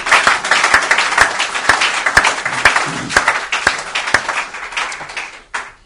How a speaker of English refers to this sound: it says, if you're going to clap for him, give him a good one.